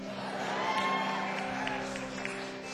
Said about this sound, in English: Weird applause line, but all right.